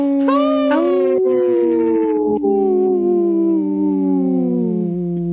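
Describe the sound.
A person imitates a wolf howl: one long, loud, sustained vocal tone that lifts briefly at the start, then slowly glides downward in pitch over about five seconds, with no talking.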